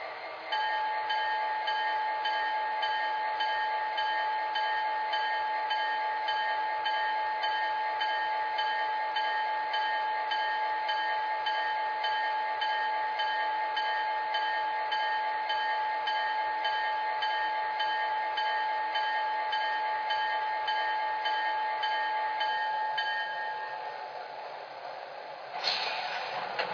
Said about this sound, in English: Track 1, train number 609, the Metro Union Pacific District Northwest Line.